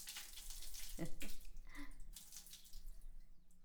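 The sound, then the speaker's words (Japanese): Water runs and splashes steadily as someone's whole body is rinsed off, with brief splashy bursts and a faint low murmur underneath, fairly soft. “きちんと全身を流してくれ。”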